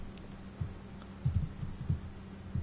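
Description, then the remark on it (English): Soft, irregular keyboard typing: a few scattered clicks and short bursts of keystrokes over a low background hum, fairly quiet and with no voices. “This is when you sit there and just do arg and hear typing.”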